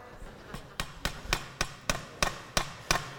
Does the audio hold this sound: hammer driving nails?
yes